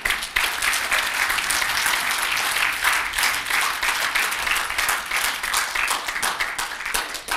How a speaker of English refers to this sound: Thank you for your stand. Give your pastor a round of applause, please.